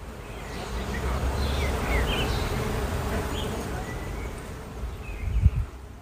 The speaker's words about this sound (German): Und das Summen für deine Projekte und Ziele wird auf einmal lauter und lauter und klingt irgendwann so wunderschön wie dieses Bienensummen hier unter der Kirsche, in der ich gerade stehe.